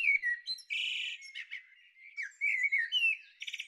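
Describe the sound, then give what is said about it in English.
A blackbird sings clearly, running through varied fluty phrases with quick twittering trills and big pitch swoops, separated by short pauses, with no voices or background noise. “It's all about the blackbirds.”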